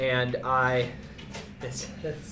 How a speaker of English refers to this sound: The station dog is making some noise and scratching at some doors. It's all right. Yeah. She'll learn.